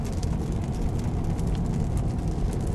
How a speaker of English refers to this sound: Wow, a lot of traffic today.